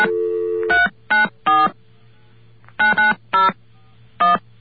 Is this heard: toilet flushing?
no